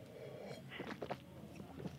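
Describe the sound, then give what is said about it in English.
A wet slurping sip of wine, drawn in with air in a few quick gurgling pulses, followed by soft mouth sounds and a quiet swish, as someone tastes the wine. “The palate, let me take a sip. You guys can listen to me sip.”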